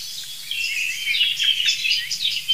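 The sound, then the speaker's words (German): A song thrush sings without pause, throwing out bright, varied high phrases and quick repeated notes, with a faint low hum underneath and no voices. “Das ist eine wirklich leitende Singdrossel, würde ich sagen.”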